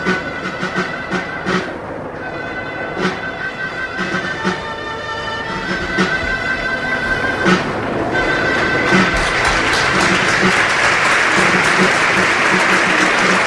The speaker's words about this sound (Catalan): Uf, com diria aquell de pell de gallina, aplaudeix. Trenca en un aplaudiment unànime la grada del públic de Mestalla.